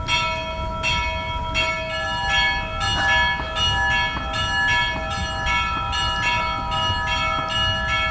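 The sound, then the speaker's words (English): Church bells peal continuously in an overlapping, rhythmic cascade of strikes with long ringing tones, loud and steady over a low rumbling background, with no voices. “And you're actually about to ring them right now. Yes, ring them every Sunday morning.”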